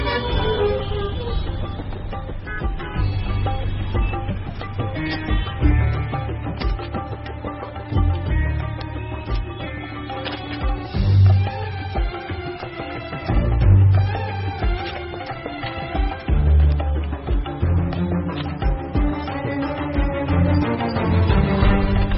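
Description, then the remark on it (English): Many car horns honk over and over in a traffic jam on a congested city street, overlapping blasts of different pitches forming a loud, continuous din. “Sometimes, inevitably, there are traffic jams.”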